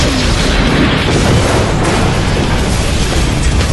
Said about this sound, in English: The resultant explosion rocked the air, causing the remaining wag to skid and veer across the surface of the road wildly before righting itself and continuing the pursuit.